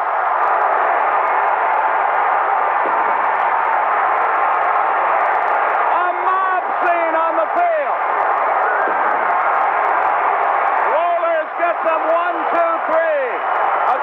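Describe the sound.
A huge stadium crowd roars in celebration of the Atlanta Braves winning the championship, a loud, unbroken wall of cheering that holds steady throughout, with a few individual voices shouting out above the din.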